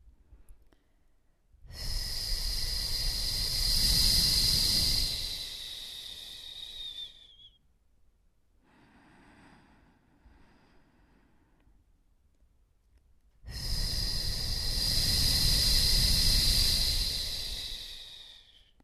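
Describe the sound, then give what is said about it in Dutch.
Two long, loud breaths blown out through a relaxed, wider-open mouth with a hissing F sound, each swelling from soft to hard to soft, separated by a soft, quiet inhale through the nose, demonstrating a breathing exercise. “Zoals je hoort, adem ik uit door mijn mond met een F. En adem ik weer in door mijn neus.”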